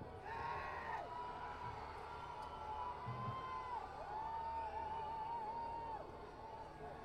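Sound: audience cheering and shouting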